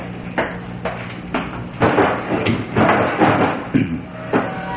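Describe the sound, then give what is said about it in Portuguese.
A wooden dressing table drawer slides and bumps as earrings are put away, with several knocks and scraping rattles in quick succession, moderately loud, with no voices. “Um momentinho, eu vou guardar estes brincos na gaveta da penteadeira.”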